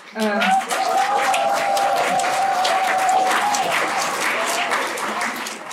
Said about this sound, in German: Manche Omas machen sich eifrig Notizen und immer wieder gibt es bestätigende Zwischenrufe oder Applaus für die aktuellen Rednerinnen.